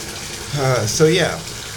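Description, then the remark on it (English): A steady rushing hiss of tap water pours into a bathtub throughout, with a short burst of voice sounding over the running water midway. “Once the water got turned on and somebody realized, oh my goodness, the bathtub's being filled up.”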